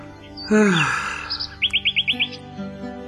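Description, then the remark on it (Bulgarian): Small birds chirp brightly while hopping from twig to twig, a loud swooping call followed by a quick run of six sharp, evenly spaced chirps, then softer trailing calls against a faint background. “Писарят въздъхна тъжно и се загледа в птичките, които чироликаха весело и подскачаха от клонче на клонче.”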